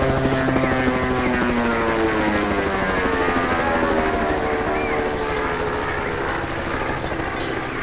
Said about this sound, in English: I don't want to worry you, but that helicopter's coming straight at us.